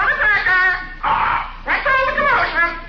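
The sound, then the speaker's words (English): A parrot squawks and chatters in shrill, strained, speech-like bursts, with a harsh raspy screech in the middle between two runs of nasal, wordlike babble, fairly loud throughout. “Oh, the parrot, huh?”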